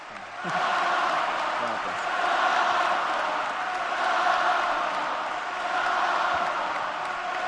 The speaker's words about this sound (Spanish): No le dejan hablar. Sigue ovacionando en pie todo el Carpena y no dejan hablar a Rafa.